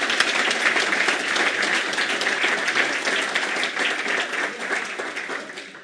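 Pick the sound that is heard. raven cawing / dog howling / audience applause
audience applause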